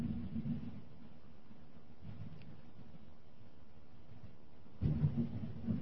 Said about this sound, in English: Can you hear the thunder?